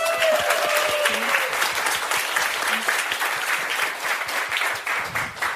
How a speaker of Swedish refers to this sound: Hon är satiriker, poddare från Fantastiska Lilla Drevet samt en av landets mest älskade serietecknare. Ge en varm applåd till Nanna Johansson.